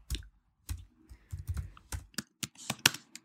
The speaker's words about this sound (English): I'm typing sexy apron.